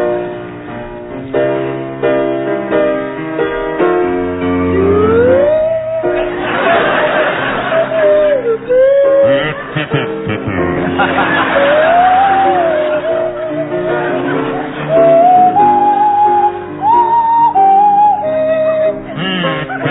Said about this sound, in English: featuring … on the kazoo and … on the Swanee Whistle.